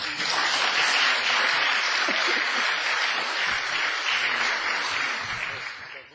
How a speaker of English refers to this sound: she deserves a clap for her.